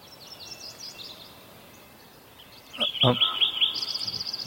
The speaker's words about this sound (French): Crescent Meadow. Well, we're definitely hearing crows, and we're Il y a certainement des corneilles. Yeah. And we're hearing a habitat in the Sierra Nevada mountains. Qui est dans les montagnes de la Sierra Nevada. And it's a early morning sound.